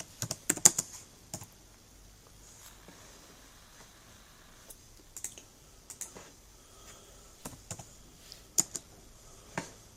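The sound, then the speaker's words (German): Computer keyboard typing in irregular bursts of sharp clicks, a quick flurry at the start followed by scattered keystrokes and short runs with pauses between, fairly quiet and with no voices, as someone retypes everything into a new Word document. “Ich glaube, der hat gerade so ein anderes Word-Dokument aufgemacht und tippt einfach alles nochmal ab.”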